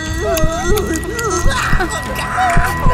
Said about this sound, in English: That was the sound of me smacking my gum.